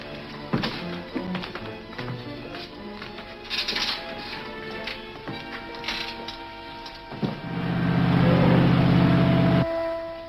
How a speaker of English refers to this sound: Take Tobel down to the boat. Start the engine.